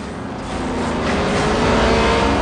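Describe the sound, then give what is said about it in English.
A speeding truck's engine revs hard in a continuous roaring drone that builds steadily in loudness over a couple of seconds, with no voices, as the truck swerves wildly, straightens and smashes through a road closed sign. “The truck swerves wildly, then straightens, smashing through a road closed sign.”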